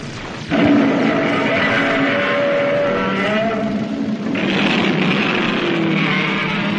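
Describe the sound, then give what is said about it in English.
A boat engine on a lake kicks in abruptly after a brief pause and keeps up a loud, steady, rough roar, shifting slightly in tone partway through, with no voices. “Try the engine again”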